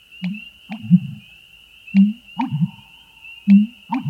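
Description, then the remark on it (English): An American bittern's deep, resonant pumping call: low, hollow gulping booms repeated in uneven pairs, with a steady thin high whine running underneath. “This bird's deep, resonant calls have earned it nicknames like the Thunder Pumper and the Stake Driver.”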